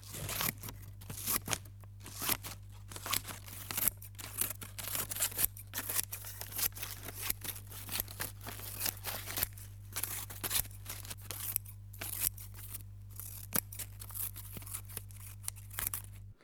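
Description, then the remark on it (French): Scissors snip softly and repeatedly at an irregular pace, quiet, with faint crunchy cutting textures over a steady low hum in the background. “Quand c'était la bande magnétique qu'on pouvait couper avec des ciseaux, ça sonnait pas comme ça, c'était clac. C'est doux.”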